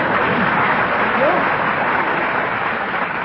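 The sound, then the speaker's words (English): A studio crowd claps together in a steady, dense wash of applause that holds at an even loudness for a few seconds, with a faint murmur of voices beneath; the audience applauds together at the host's request. “Everyone applaud together, please.”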